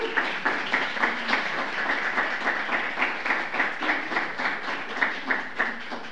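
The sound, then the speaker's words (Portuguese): A sustained round of applause from a crowd at a tribute ceremony as an honoree receives a tribute. The clapping is dense and steady, with a faint rhythmic pulse running through it for about six seconds, and no voices over it. “E agora, mais uma vez, uma calorosa salva de palmas.”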